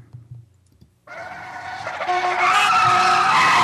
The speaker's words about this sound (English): Did you hear that? It's the comforting sound of my safety skid brakes with patent-pending safety squeal technology. During dangerous panic maneuvers, safety squeal warns other motorists and innocent bystanders to brace for impact.